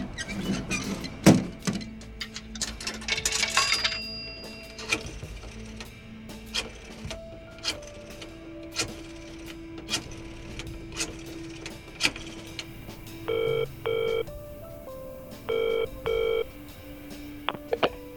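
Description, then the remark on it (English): Payphone sounds in a dirty phone booth: clunks and rattling clicks of a handset and coin mechanism, then several short touch-tone dialing beeps in quick bursts, with no voices. “Soon after he got the order, Sam stepped into a dirty phone booth.”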